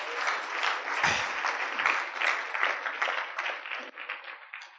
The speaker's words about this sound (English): Praise the Lord. You clap for that as well.